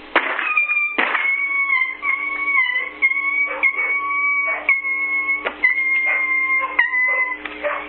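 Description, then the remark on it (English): A dog barks in a loud, repeated series of sharp bursts, with a steady high-pitched whining tone running underneath the whole time. No one speaks. “This damn dog. There he goes.”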